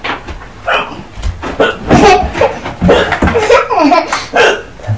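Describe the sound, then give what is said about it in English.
A baby girl hiccups repeatedly, a series of short, sharp little catches spaced a second or so apart, mixed with soft voiced baby sounds. “Hello, little baby, with hiccups.”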